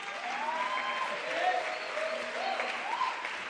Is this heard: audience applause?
yes